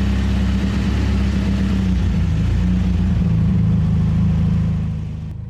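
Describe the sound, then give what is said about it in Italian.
A Suzuki car's engine is started and rumbles loudly and steadily, with a low droning hum and slight revving, then the sound eases off and fades in the final second as the car drives off. No one speaks. “Esco dal caseggiato e mi avvio verso il mio Suzuki. Ci salgo e metto in moto.”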